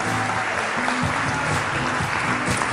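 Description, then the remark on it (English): A crowd claps steadily and loudly for guest performers at a dance show, a dense, even roar of many hands with faint cheering voices humming beneath it. “Let's give an extra round of applause to all of our fantastic guests.”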